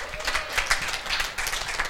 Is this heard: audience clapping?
yes